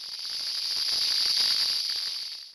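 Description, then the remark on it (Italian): A steady, intense sizzling hiss with faint crackles running through it, loud, holding constant for a couple of seconds before cutting off abruptly. No voices. “Segue un intenso sfrigolare non identificato.”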